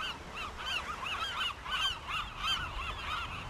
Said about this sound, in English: I got to tell you, the birds have been following us around the island since we got here. I would imagine they're not used to seeing people walking around on this island.